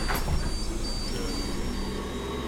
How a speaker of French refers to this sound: Ils prennent la ligne 3 jusqu'à l'arrêt La Manufacture. C'est sympa le bus. On voit la ville défiler sous ses yeux.